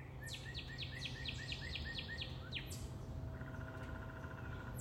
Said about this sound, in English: I hope you can hear the woodpecker. I've been hearing it for the past few days, right? I mean, they're always around, but this is the third day where, in the morning, I believe it's a downy woodpecker. And what is it doing? Drumming.